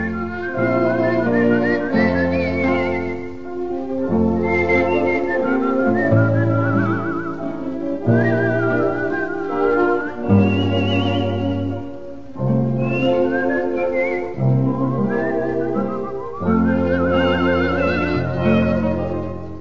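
A virtuoso whistling solo with flute-like trills and warbling runs, carried over a steady band accompaniment with low sustained chords. The whistle is bright, close and continuous, with no talking.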